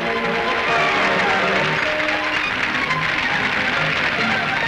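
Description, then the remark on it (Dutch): Steady applause from high-ranking guests for a festive parade of boats in the Netherlands, reviewed by the commander of the Royal Netherlands Navy, dense and continuous for several seconds, with a faint murmur of other sounds mixed underneath. “De feestelijke parade van boten en bootjes kreeg van de hoge gasten een welgemeend applaus.”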